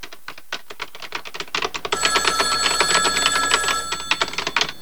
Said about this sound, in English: If you're there, please pick up the phone.